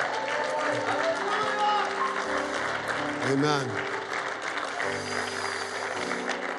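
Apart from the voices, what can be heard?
audience clapping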